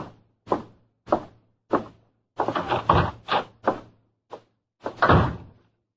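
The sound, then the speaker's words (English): A back door is handled: three separate thumps, a burst of rattling and clattering, then a last heavy thud as it shuts. No one speaks. “you go out back through that door.”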